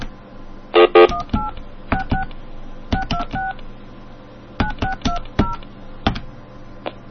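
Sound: phone number being dialed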